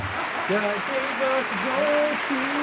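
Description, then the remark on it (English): An applause sound effect: dense, steady crowd clapping that fills the whole clip, with a few sustained, wavering vocal tones like cheering rising over the noise. “I accidentally found applause.”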